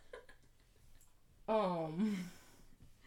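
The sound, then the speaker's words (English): A dog breathes heavily, with one loud, breathy exhale that carries a gliding, groan-like tone, preceded by softer panting-like huffs. There is no talking. “Another dog hath entered the room. What's going on, babe? Oh, just that's heavy breathing.”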